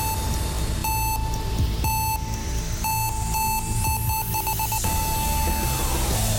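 An electronic quiz countdown timer beeps in steady, evenly spaced tones that quicken into a rapid burst of pulses near the end, loud over a low background rumble, with no talking.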